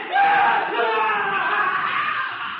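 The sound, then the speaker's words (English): A man's voice, an Indian in the forest beyond a clearing, imitates the screams of a white captive under torture as a taunt: one long, loud, strained wailing cry that holds steady for a few seconds without a break, with no words spoken. “He is imitating the screams of a white captive under torture.”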